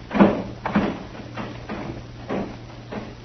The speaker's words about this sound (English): Open that back door.